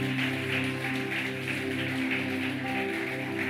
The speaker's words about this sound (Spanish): Sí, un aplauso a Jesús, ¿cierto?